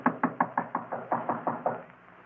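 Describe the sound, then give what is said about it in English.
A rapid run of about ten firm knocks on a wooden door of a rented back room at the head of a staircase, the door standing ajar, evenly spaced, with no voices, then a brief quiet tail. “Standing there knocking, I suddenly realized that the door was ajar.”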